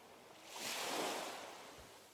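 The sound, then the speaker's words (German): Soft ocean waves wash gently onto a beach, a broad hiss of surf swelling and then receding in one slow, quiet surge with no voices. “Du hörst das Rauschen der Wellen, die ganz sanft an den Strand spülen.”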